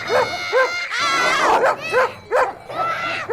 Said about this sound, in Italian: Ora siete in mezzo al gregge. È chiaro che i cani abbaiano. Ma state distanti dagli animali.